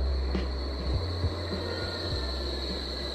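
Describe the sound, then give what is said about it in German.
A quiet tram rolls steadily along with a low rumble, a faint high squeal held above it and occasional soft creaks and knocks from the rails. No one speaks. “So leise ist eine Straßenbahn.”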